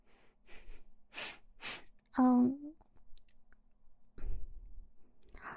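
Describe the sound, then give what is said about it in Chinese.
A person sneezes again: one loud sneeze bursts out with a sharp voiced cry, preceded by a few short breathy puffs and followed by quieter rustling noises. “你看你又打喷嚏。”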